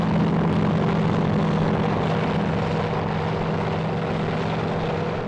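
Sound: military helicopter approaching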